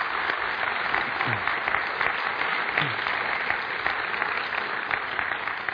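An audience in a church claps steadily throughout, a dense, sustained wash of many hands at an even loudness, with no voices standing out.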